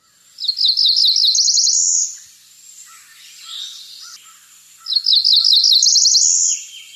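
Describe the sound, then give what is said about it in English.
A Cerulean Warbler, a very small blue and white bird, sings twice, each song a quick run of high, buzzy notes rising into a rapid trill, with a few seconds' quiet between them. Clear, with no voices. “And it's all because of a very small blue and white bird with a lovely song called the Cerulean Warbler. Here's its song.”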